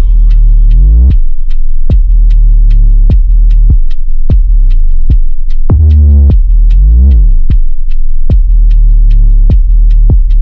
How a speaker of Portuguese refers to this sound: Iniciando os testes de som. Aguarde. Certo. Testando subwoofer.